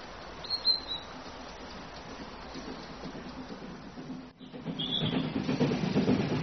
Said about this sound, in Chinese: 纵横交错的铁路网，奔跑的列车